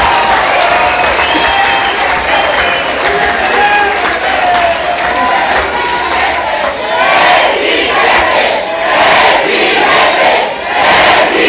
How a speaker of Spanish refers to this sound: ¡Un aplauso para los medios de información que vienen a San Bolívar! Miren, antes no se portaban tan bien, pero ahora ya se portan muy bien. Un aplauso para los medios de información.